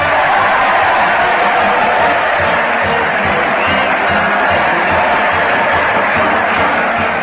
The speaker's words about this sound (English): Just listen to that crowd cheer Fred Allen as he leads his weekly parade to the old Town Hall. Fred's leading the band on a muted motorcycle, and the Mighty Allen R players swinging their golf clubs bring up the rear in par.